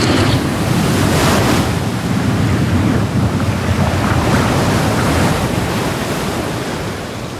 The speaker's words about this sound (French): Ici, grosse tempête. La météo est en train de se dégrader, beaucoup de vent, une forte houle et peu de visibilité.